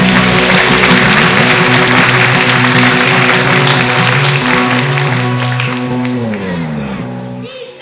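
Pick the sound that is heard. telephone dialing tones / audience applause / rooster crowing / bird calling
audience applause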